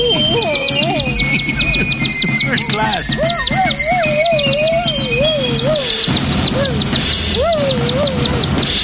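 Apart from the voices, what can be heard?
canaries chirping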